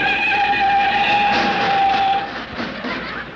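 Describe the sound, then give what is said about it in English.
A loud, sustained high-pitched squeal of car brakes, stepped on as the car stops at an orange juice stand, holds steady for about two seconds, then breaks into a rougher, fading scrape. No one speaks. “Stepped on the brakes.”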